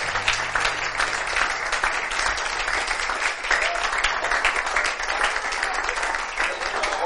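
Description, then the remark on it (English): A crowd of people claps for the Lord one morning in a sustained, dense burst of applause that stays loud and steady throughout, with a faint low hum underneath early on. “Give the Lord a hand clap this morning.”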